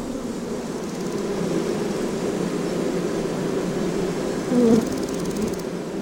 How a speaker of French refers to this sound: Au centre du panneau, tu peux voir la reproduction scénographique d'une ruche traditionnelle et l'hologramme avec un nuage d'abeilles autour. Ces abeilles semblent vraies, n'est-ce pas?